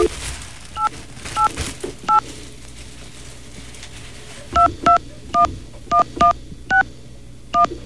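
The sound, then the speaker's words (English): Touch-tone dialing of a toll-free number on a three-way phone call: ten crisp, beeping key presses over a faint steady line hum, three spaced out at first, then a quicker run of seven after a short pause. Nobody speaks. “So we're going to three-way you to a dial tone here, so don't be concerned.”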